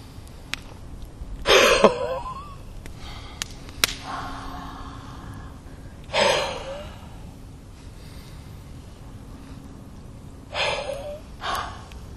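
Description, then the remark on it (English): A few deep, forceful breaths drawn in and let out at slow, uneven intervals during a breathing exercise, with quiet pauses of near silence between them and no talking. “If you need a fifth or even a sixth breath, it is okay as well.”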